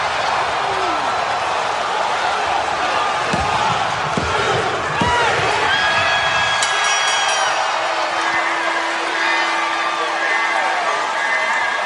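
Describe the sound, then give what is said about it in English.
A packed arena crowd at a steel cage wrestling match roars and cheers wildly for the whole stretch as Jeff Hardy goes to the top of the steel cage, a dense constant wall of noise broken by a few heavy thuds early on and scattered shrill whistles. “The crowd goes crazy.”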